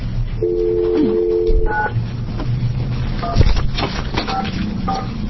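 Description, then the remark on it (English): A phone line hums with a steady dial tone, then several short, evenly spaced touch-tone dialing beeps sound one after another over a low background hum, as a call is dialed to bring a remote participant into a meeting. “we're going to actually dial in and have a conversation with another person here.”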